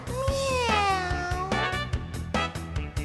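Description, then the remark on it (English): A long, drawn-out meow from Cookie the cat with a sliding pitch sounds over an upbeat musical backing with a steady thumping beat, followed by a shorter second meow near the end. “I'm Cookie. Cookie the cat.”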